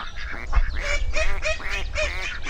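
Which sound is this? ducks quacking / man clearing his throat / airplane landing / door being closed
ducks quacking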